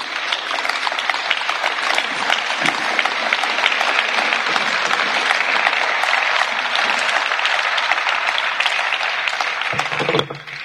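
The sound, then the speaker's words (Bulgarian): Sustained audience applause after a speech on press freedom in Europe fills the whole stretch, a dense, steady wash of many hands clapping at even loudness before tapering slightly at the very end. “За аплодисментите така можех да пина и малко вода.”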